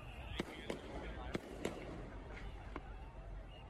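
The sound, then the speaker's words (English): Half a dozen sharp cracks and pops of gunfire and fireworks ring out at irregular intervals on a city street in Milwaukee, some loud, others fainter, over a steady low city-street rumble. “Some of that's fireworks. A lot of it is gunfire.”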